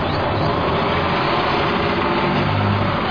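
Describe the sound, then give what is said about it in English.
The engine of a number 4 city bus idles steadily at a stop, a constant low rumble with a throbbing hum and a broad hiss. No voices are heard. “What bus is here? Is it the number 9? No, it's the number 4.”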